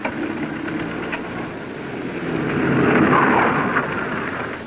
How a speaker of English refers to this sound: There we go. How's that for parking a car there